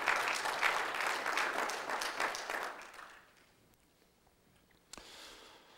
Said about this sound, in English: Clap for that.